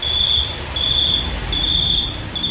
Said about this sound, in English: It's a cricket?